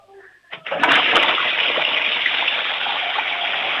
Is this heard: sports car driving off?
no